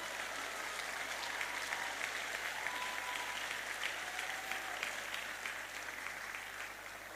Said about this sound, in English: And I think that is a good point to give him a clap offering.